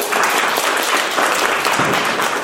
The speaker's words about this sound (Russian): Я рада, аплодисменты меня поддерживают.